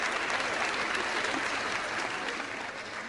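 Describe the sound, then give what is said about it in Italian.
Steady applause from a crowd at a day of remembrance organized by the Centro Studi Pio La Torre, after a greeting sent on behalf of President Napolitano is read out: a dense, continuous patter of many hands clapping at an even loudness for a few seconds, fading slightly toward the end. “Un applauso a lui che si ricorda sempre.”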